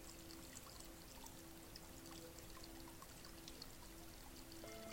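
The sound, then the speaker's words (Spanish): Soil is poured steadily into a plant pot holding a seed, making a soft, continuous granular hiss that lasts several seconds, quiet, with a faint steady hum underneath. “Vamos a ponerle tierra, una tierra mágica y poderosa, para que encaje bien sus raíces.”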